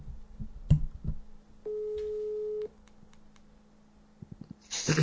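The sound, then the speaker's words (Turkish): A phone's ringback tone sounds once as a steady, clear beep lasting about a second, surrounded by faint clicks, thumps and handling noise, with a louder rustle at the end. “Çalıyor, bitiriyorum hadi.”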